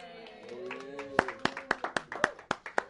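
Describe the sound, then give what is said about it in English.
Congregation clapping in a steady, sharp rhythm, about nine crisp claps after a brief murmur of voices, with talking continuing faintly underneath; a church audience clapping to thank a member who sponsored the meeting venue. “This one we have clapped for you.”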